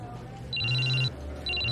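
mobile phone ringing

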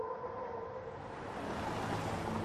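train interior rumble

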